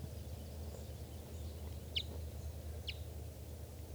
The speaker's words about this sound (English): And there's another bird around here chittering. Which looks like a female. I'm not sure.